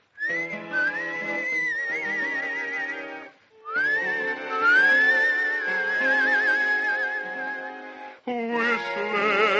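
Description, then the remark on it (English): A cowboy whistles a slow, wavering melody with noticeable vibrato, loud, over sustained instrumental backing, in three long phrases separated by brief pauses. “Cowboy whistles bravely to create a human sound.”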